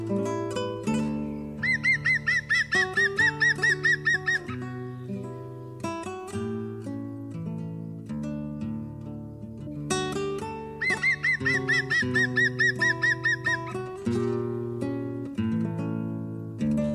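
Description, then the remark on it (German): A green woodpecker's ringing, laughing series of rapid calls rings out twice, each burst lasting a few seconds, set against a steady backdrop of sustained musical tones. “Das war der Grünspecht.”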